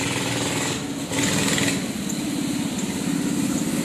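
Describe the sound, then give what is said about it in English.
A loud, rough engine drone of a moped or motorcycle passing by, a steady buzzing rattle with a brief surge of revving, continuous throughout. “Someone's on a moped. It's gonna get loud. Or a motorcycle or something.”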